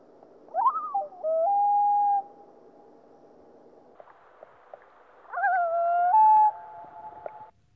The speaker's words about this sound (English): The combination is often heard, for example, when a boat prevents a parent from reaching its chick. Here are two tremolo-wail combined calls.